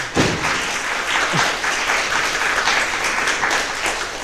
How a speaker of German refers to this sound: Ein ganz herzliches Applaus, ganz herzlichen Applaus an die beiden.